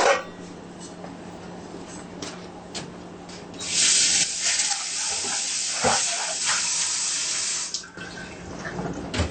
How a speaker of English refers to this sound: Now here, we're going to boil some water and cook the soup.